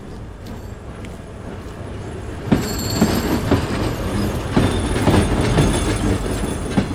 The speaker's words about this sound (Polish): Przechodzimy nad torami kolejowymi w Hełmie. O, tutaj potężna siatka połączeń, ażby się chciało wsiąść w ten jeden z klimatyzowanych pociągów, który podjechał i gdzieś tam pojechać siną w dal